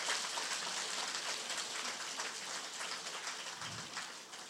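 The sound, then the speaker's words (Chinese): Sustained, dense applause from an audience thanking Master Lu Junhong for his teaching talk, a steady wash of many hands clapping at an even level for several seconds, with no voices rising above it. “让我们以热烈的掌声，感恩卢俊宏台长的精彩开示。”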